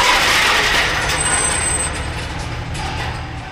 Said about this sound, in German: Zwar gelingt es ihm noch, das Fahrzeug zu bremsen, leider kann er jedoch nicht verhindern, dass sie an der Leitplanke entlangschlittern